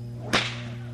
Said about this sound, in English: They are small, but they are very effective, and you find that a lot of whip artists are using this style whip in whip acts in shows and on TV and so forth, because you can use them in such a small space.